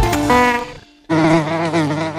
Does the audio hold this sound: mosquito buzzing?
yes